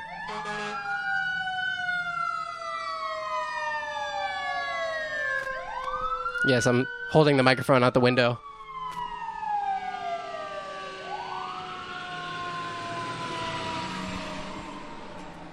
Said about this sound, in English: Hold on, sirens.